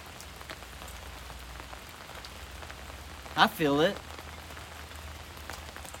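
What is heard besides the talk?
rain falling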